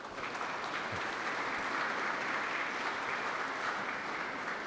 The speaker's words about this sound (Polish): Cieszymy się, że po tym spotkaniu ksiądz prałat jest razem z nami i bardzo serdecznie witamy. Wielkie brawa.